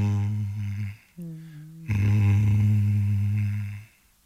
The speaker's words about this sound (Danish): Det lyder som mobiltelefon, der ringer på bordet. Det lyder mere som en, der prøver at falde i søvn. Altså meget rusten mobil. Ja, det lyder som, at du snorker. Ja, det er en gammel, meget gammel mobiltelefon.